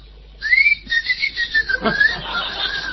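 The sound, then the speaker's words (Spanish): A person whistles a thin, wavering tone that slides slightly downward and holds for a couple of seconds, fairly loud, imitating the shrill whistling of 'whistling lice' (piojos chifladores), over a faint background hiss. “¿Eran los piojos? Y eran los piojos chifladores.”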